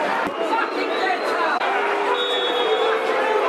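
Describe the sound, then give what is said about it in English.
A large football stadium crowd at a Millwall match, 38 minutes in, murmurs and chatters restlessly in a steady, dense wash of voices, a hubbub with occasional faint whistles and calls rising above it. “38 minutes, you can start to hear the reaction of the crowd. It's becoming restless, dear listeners, becoming restless.”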